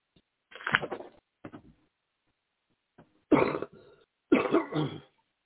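A man clears his throat and coughs in several rough, harsh bursts separated by short pauses, the last two louder and more forceful. No speech is heard.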